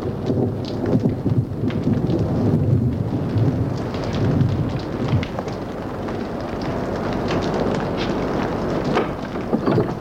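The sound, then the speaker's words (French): A thunderstorm outdoors rumbles with deep, rolling thunder over steady, dense rainfall, the low roar continuous and fairly loud throughout with scattered crackling drops on top. “Dehors, il fait de l'orage.”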